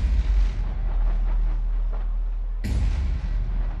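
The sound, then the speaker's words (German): A dense, continuous barrage of firecrackers crackling and booming at a New Year celebration, with a heavy low rumble throughout and a sudden louder burst near the end, no talking. “Was immer zum Neujahrsfest dazugehört, Böller und die Farbe Rot.”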